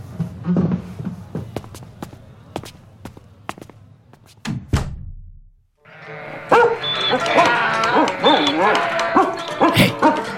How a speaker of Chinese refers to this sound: 哎，你这条狗，你不要叫